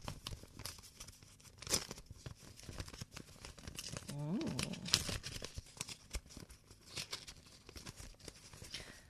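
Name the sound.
envelope being torn open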